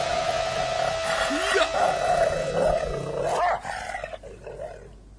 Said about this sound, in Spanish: Se enloqueció el perrito, ¿eh? Se enloqueció. Y un perro jodido porque muerde la pierna del que va último.